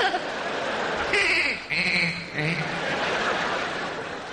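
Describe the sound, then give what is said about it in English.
A person imitates a goat, giving a few wavering, nasal bleats in quick bursts, fairly loud, with a short pause between them and no words spoken. “I keep thinking I'm a Randy Goat fucking everyone.”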